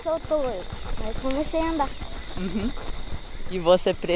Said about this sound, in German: also dem Pferd, auf dem ich hier gerade reite.